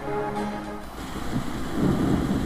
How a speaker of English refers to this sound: This is a recent question I've been asked, and it just happened to be raining, so it's perfect timing.